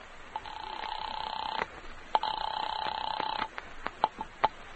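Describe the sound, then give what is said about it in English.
A telephone call placed from a phone booth in a drugstore to a doctor's house: ringing in two long electronic trilling bursts heard faintly through a line, followed by a few short clicks and blips as the call connects. “slip unnoticed into a phone booth, put through a call to Dr. Fisher's house”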